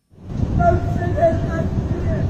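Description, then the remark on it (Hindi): A rickshaw puller in Patna cries and wails, his rickshaw stuck in floodwater from heavy rain, in long, wavering, strained tones that rise and fall without pause, set against a steady, loud rumbling wash of background noise. “रोने बिलखने की यह आवाज एक रिक्शे वाले की है जिसका रिक्शा पटना में हो रही भारी बारिश के कारण जलजमाव में फंस गया है।”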